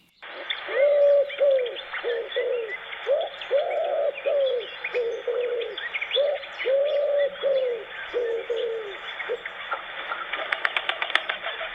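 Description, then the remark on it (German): A wood pigeon coos its courtship song over and over in a steady rhythmic phrase of soft, hollow notes, clear, with faint background chirping and no one speaking. “Und die Rita, die ruft nämlich immer ihre Freundin, die Gudrun. Und das geht so. Hör gut zu, Gudrun.”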